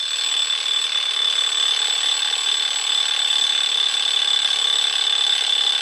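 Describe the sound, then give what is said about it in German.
An alarm clock rings loudly and without a break, a shrill, rapid metallic ringing that holds steady at one level for several seconds, with no voices. “Ja, ich beginne ja, mit dem Geräusch. Ich nehme jetzt auch mal den Wecker, Herr Müller.”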